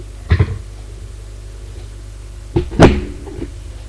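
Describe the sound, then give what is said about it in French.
A woman opens a door: a quick double clack of the handle, a pause, then a louder rattling latch and a dull thump, with a faint knock trailing after. No voices. “Elle ouvre la porte.”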